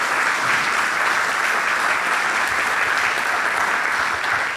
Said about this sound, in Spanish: Muchas, muchas gracias. Y se merecen un aplauso por eso, a ustedes. Siempre a ustedes.